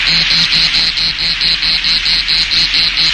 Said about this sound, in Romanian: Iar când nu dispun, regizorul tehnic are miraculoase benzi care fac să cânte privighetori. Să te simți lângă un lac cu broaște